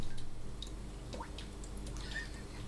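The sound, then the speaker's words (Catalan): Water drips steadily from an air conditioner drain into a bucket, each drop a small wet plink, over a low continuous hum of background noise. No one speaks. “Amb una aixeta que vessa. Tenim el jacuzzi aquí. És el desaigua de l'aire condicionat.”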